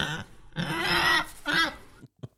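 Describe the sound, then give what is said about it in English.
A person imitates a pig with a long, loud, nasal squealing oink followed by a shorter grunt, then a brief faint snort. “Had to get the voice. Had to get it. Had to get a few audios in.”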